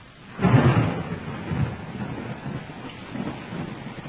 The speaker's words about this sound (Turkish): Duanın üzerinden az bir müddet geçmişti ki göğün yağmur yüklü kurşuni bulutlarla dolmasıyla boşanması bir oldu. Çakırtılarla yağan şiddetli yağmur dağı taşı rahmete boğdu.